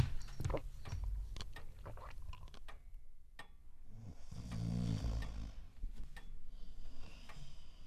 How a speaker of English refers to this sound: How can someone snore like that?